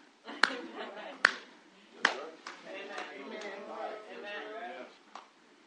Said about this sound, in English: This is the way black folk clap their hands. This is the way white folk clap their hands.